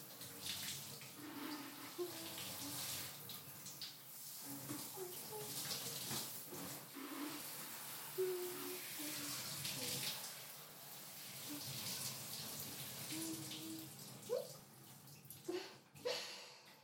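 Shower water runs in a steady hiss for the whole stretch as a shower rinses a person's body, with a few louder splashes near the end as the spray hits something.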